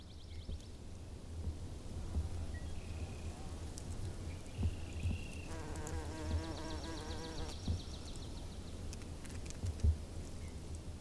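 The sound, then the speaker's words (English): Bees buzz steadily for the whole stretch, a low droning hum with a few louder passes, joined midway by a brief higher-pitched whirring flyby and faint outdoor ambience. “Be gentle with the bees.”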